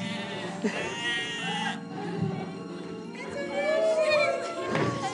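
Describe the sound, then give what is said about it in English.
Sheep bleat twice, each a wavering, nasal cry lasting over a second, with a soft thud in between against a quiet background. “One sheep, two sheep.”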